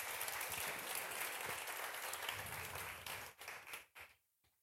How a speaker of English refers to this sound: Give them one last round of applause.